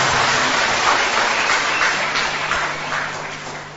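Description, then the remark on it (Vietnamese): A church audience breaks into sustained applause to welcome a woman coming up to give testimony, a dense, steady crackle of many hands clapping that carries on for several seconds and eases slightly toward the end. No one speaks. “Một tràng pháo tay để gặp chứng nhân ấy, xin mời.”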